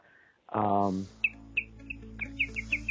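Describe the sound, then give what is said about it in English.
A small bird in a studio chirps repeatedly: about eight short, bright tweets in a quick, uneven series, clear. A brief voiced sound comes just before the chirping starts. “And by the way, the bird's back in the studio.”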